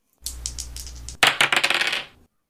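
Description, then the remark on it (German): Dice, rolled to choose a category in a game, rattle for about a second, then spill onto a hard surface in a loud clatter of quick clicks that tumble and settle. No one speaks. “Wir würfeln die Kategorie.”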